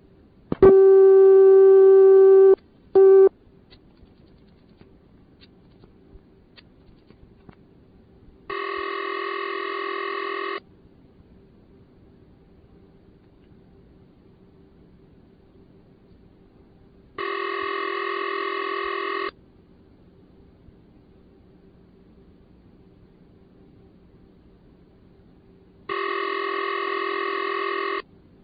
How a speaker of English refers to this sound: This particular CX100 was installed in the little town of Frenchboro, Maine, which is located on a small island. This system had all of 40 subscribers at the time. Our first call on this system will be to a ringing number.